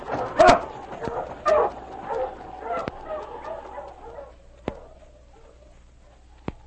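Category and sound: animal, sled dogs barking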